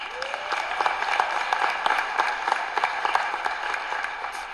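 A crowd claps steadily throughout, a dense, even patter of many hands with no voices standing out, holding at a moderate level for the full few seconds.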